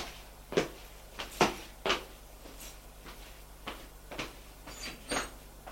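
A woman handles a door and pulls it shut, giving a series of soft wooden thuds and clunks spread irregularly over several seconds, with a low steady hum.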